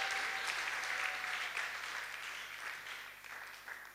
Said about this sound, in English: Come on, put your hands together.